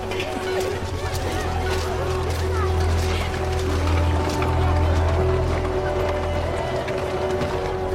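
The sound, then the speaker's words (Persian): A rowboat approaches across the water, a steady continuous rumble of movement and water noise holding at an even loudness throughout, with indistinct voices in the background. “لورد یه قایق داره میاد.”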